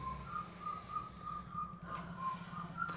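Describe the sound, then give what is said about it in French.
Faint birds whistle in a steady series of short, high, evenly spaced notes over a continuous low engine-like rumble. “J'entends des moteurs, des sifflements d'oiseaux, des moteurs, des sifflements d'oiseaux.”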